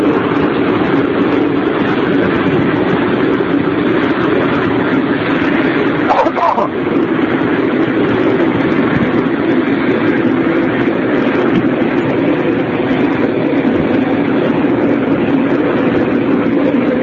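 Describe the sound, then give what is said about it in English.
A loud, steady roar of Embraer Legacy business jet engines running on the ground, a dense unbroken rumble and whoosh that holds constant for the whole stretch with one brief flutter midway. “It's a business airplane. I haven't seen one before. It's an Embraer Legacy, which is a business version of their CPAP commuter jet.”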